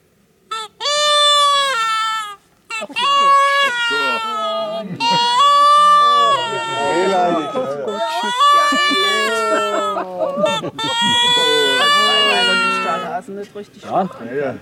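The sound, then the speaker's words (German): A hare distress call (Hasenklage) used to lure predators: shrill, wavering, baby-like wails repeated in about five long crying bursts with brief gaps, loud and on its own with no talking. “Und das hört sich dann ungefähr so an, Hasenklage.”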